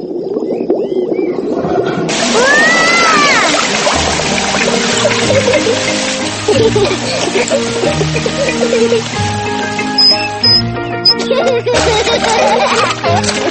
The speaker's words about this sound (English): Peppa holds the hose. And Mummy Pig turns on the water.